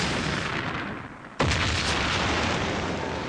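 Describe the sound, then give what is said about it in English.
A single sudden, loud bomb blast in Baghdad cuts through a steady background roar, its heavy low boom followed by a sustained rumbling wash of noise. No one speaks. “Sometimes when we were filming and interviewing people there, we'd suddenly hear this deafening explosion, and then the sirens would begin to wail.”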